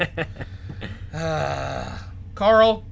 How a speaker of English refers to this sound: I'm just going to, every time the train honks, I'm just going to stop talking, because... because fuck that guy.